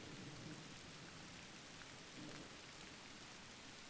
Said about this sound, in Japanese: 困ったな、雨結構強いし当分止まないみたいだし。